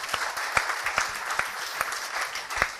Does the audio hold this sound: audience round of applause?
yes